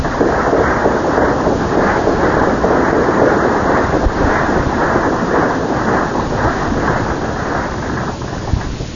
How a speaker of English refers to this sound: So let's give them all a nice hand.